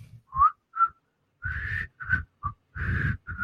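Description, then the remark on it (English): A TV theme tune whistled in short, halting notes, some brief and others held longer, with a breathy, airy quality and no talking. “So much so that Andy Griffith comes out of his grave, bitch slaps her, and says, bitch, don't come here again until you can whistle my goddamn theme.”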